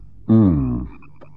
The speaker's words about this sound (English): There must be millions of them in those marshes. The frogs.